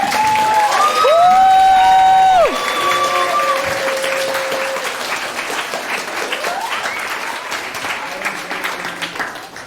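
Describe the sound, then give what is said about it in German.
An audience at the Jugendhackt Hamburg event applauds the weekend's participants steadily for about ten seconds, a dense wash of clapping that slowly eases off, with a few sustained high whistle-like tones ringing over the start. “Aber ihr könnt ja vielleicht erstmal dafür, dass wir jetzt dieses Wochenende hinter uns gebracht haben und diesen ganzen Teilnehmenden einen schönen großen Applaus geben, damit es schön losgeht.”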